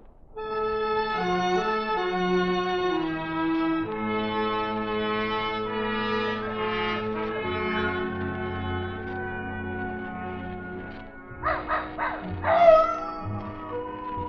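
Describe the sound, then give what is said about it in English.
Sustained orchestral tones play throughout, then near the end Old Nugget the dog barks several times in short bursts at night, answered by faint, distant howling of coyotes up in the hills. “Old Nugget the dog was carrying on a long-distance conversation with his country cousins, the coyotes up in the hills.”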